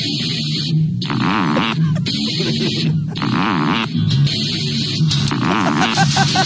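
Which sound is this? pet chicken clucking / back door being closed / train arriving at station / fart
fart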